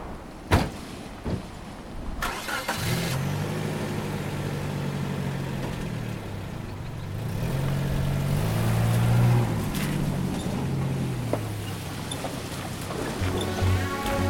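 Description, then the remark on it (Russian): A couple of clunks, then a car engine turns over and settles into a steady hum before revving up as the vehicle pulls away, fairly loud, with no voices. “Ладно, лезь в машину.”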